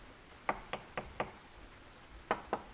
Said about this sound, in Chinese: 这时门外好像传来了敲门声。